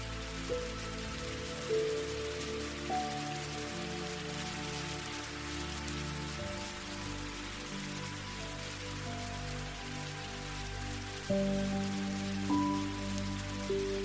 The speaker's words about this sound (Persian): صدای بارون روی برگ ها و صدای پرندگان براتون دلنشینه و از اون غرق در شادی میشید. طراوت بارون، بوی خوش خاک رو تنفس کنید.